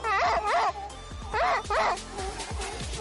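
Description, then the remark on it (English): A dog barks four times, loud, in two quick pairs about a second apart, with a low rumble of background noise underneath. “Bark once if you think knowledge is better. Bark twice if you think that wisdom is better.”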